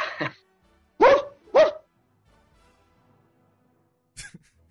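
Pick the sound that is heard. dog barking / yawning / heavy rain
dog barking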